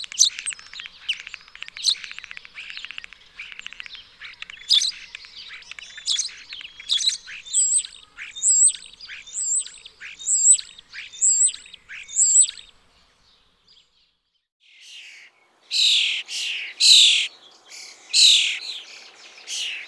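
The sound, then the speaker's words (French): Starlings chatter and chirp nonstop, a busy jumble of whistles and clicks with a run of repeated rising notes, then a short pause before louder, harsher squawks. “Les tourneaux.”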